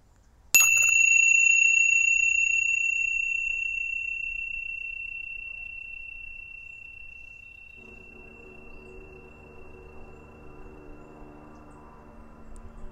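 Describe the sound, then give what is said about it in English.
A single meditation bell is struck once, clear and bright, then rings on with a long, steady tone that slowly fades away toward silence over several seconds. “All I want you to do is just see if you can tune into the sound of the bell from the moment it begins until that split second when it dissolves back into silence.”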